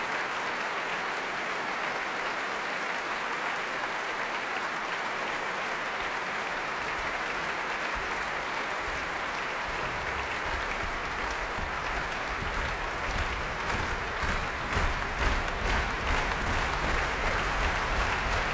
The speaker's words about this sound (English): Feet stamping, slow hand clapping to urge him back once again onto the platform, and here he comes. Lars Vogt alone this time.